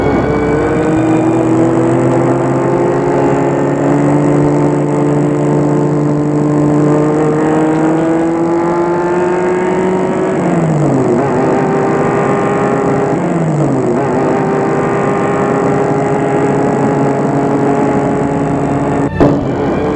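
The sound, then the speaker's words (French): A car engine hums steadily from inside a moving rented car on the way to Lac de Montrion, its pitch climbing and dropping twice as gears shift, loud and continuous with no talking. “Le lendemain, ils ont loué une voiture pour aller au lac de Montrion.”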